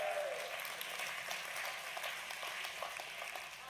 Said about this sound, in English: I heard some men like, "What, you guys cheering at my wife? I know she's good looking, but yeah, she's not cheating."